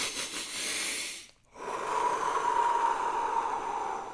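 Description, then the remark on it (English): A deep breath drawn in through the nose as part of a deep-breathing exercise, fairly loud, a short airy rush, a brief pause, then a longer steady hissing inhale with a faint whistle. No one speaks. “5 minutes of deep breathing, 4 inhales through the nose.”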